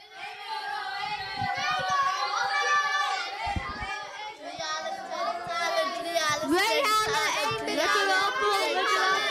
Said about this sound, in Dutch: Het is hier echt een drukte van je welste. Het is niet te doen. Ik hoor zoveel.